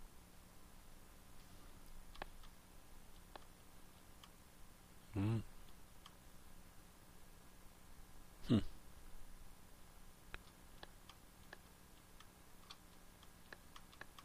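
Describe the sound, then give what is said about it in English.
Faint, sparse computer ticks sound at irregular intervals as the tab key is pressed, each one tiny and dry, with a couple of brief louder murmurs in between. “Hear like a little tick tick when I try to tab.”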